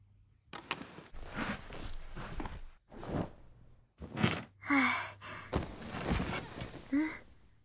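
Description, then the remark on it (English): A bed creaks and rustles as someone shifts on it, a series of uneven bursts with a few higher, squeaky groans of the frame, moderately loud with brief pauses between movements. “Hey, this bed is pretty creaky.”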